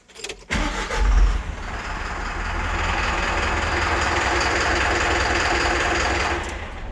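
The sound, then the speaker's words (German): A bus engine starts with a low thump, then settles into a steady, loud rumbling idle with a rattling mechanical whir, continuous, with no talking. “Klar, das war ein Bus.”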